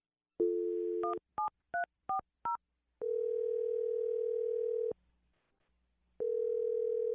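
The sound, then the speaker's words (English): A steady dial tone, then a quick run of five short dual-pitched keypad beeps, followed by long ringing tones with a pause between them, clear with no voices; a phone number being dialed on the radio show Brooke and Jubal in the Morning. “Well, I'm going to dial his phone number now, okay?”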